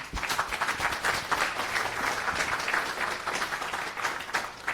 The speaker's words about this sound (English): A big round of applause